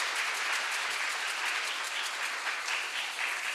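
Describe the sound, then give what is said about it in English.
Steady applause from a church audience, a dense wash of many hands clapping at once, sustained and fairly loud throughout with no voices standing out. “Yeah, you can applaud.”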